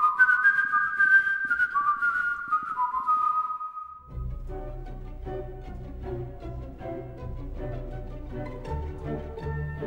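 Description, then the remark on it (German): A clear, solo whistled film leitmotif, Edvard Grieg's In the Hall of the Mountain King from the Peer Gynt Suite, plays in short bouncing notes for about four seconds, then gives way to a full orchestral passage with deep bass and layered instruments. “Es gibt nur ein Leitmotiv, eine einzige Melodie und die wird immer wieder gepfiffen.”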